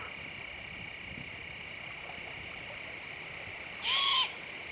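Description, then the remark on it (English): A single short owl call rings out at night near the end, over a steady, high-pitched drone of night insects, with no voices present. “And I camp in places like this, where the owls sing and the wild fruits ripen, and I dream of a few more of them, along our rivers, and in our yards.”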